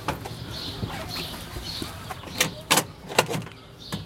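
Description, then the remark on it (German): A 50-cent coin drops into a coin-operated chicken feed machine with a short run of metallic clicks and rattles, while faint bird chirps and clucking from chickens sound in the background. “Ah, jetzt ist das Geld drin.”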